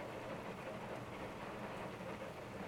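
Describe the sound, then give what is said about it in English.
Steady rain pours down in a continuous, even hiss with a low rumbling undertone, filling the space with no pauses or voices. “I just got caught in the rain while on patrol nearby.”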